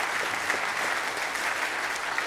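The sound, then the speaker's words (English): Steady applause from an audience at New Life Church welcoming a new member, many hands clapping in a dense, even wash of crisp claps that holds at a constant level for the whole stretch, with no voices standing out. “Clap of the hand and you belong.”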